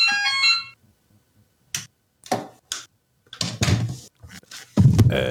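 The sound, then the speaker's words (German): A brief, bright electronic doorbell ringtone chimes for under a second with clear ringing tones, then gives way to scattered knocks, thumps and rustling handling noises. “Das ist aber ein ganz angenehmer Klingelton.”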